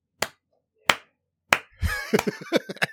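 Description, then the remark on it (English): Three slow, deliberate hand claps spaced evenly apart, followed by a quicker flurry of claps tangled with a brief vocal sound, a sarcastic round of applause for the Boston Pride winning the Isabel Cup. “Sarcastic clap.”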